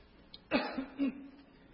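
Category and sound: human body sound, coughing and throat clearing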